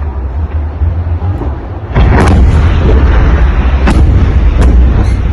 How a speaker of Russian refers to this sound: Такие бум-бум-бум, начинают идти взрывы.